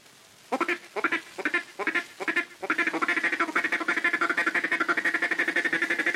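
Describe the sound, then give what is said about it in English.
A duck call blown in a mating-call pattern, the caller beginning with the hand closed and opening it near the end of each phrase: several short spaced quacking bursts, then a fast, steady run of rapid quacks, fairly loud with no talking. “For the mating call, say kitty kit, kitty kit, kitty kitty kitty kit. With your duck call, begin with your hand closed and open it near the end of the kit.”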